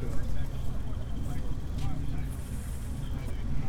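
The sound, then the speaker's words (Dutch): Engines rumble low and steady throughout, a continuous deep drone that fills the background without any clear break or rise. “Ja, de motors beginnen al te ronken.”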